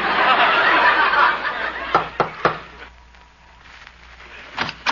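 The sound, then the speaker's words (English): Three quick, sharp knocks on the door of a house ring out after a burst of rushing noise, followed by a quieter pause and a couple more faint taps near the end. “I'll knock on the door.”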